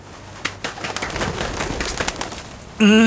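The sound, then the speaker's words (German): Irregular rustling flutters, like the wingbeats of a dove flying away, run for a few seconds, then a single loud, low, wavering dove coo cuts in at the very end. “Oh, Täubchen fliegt davon!”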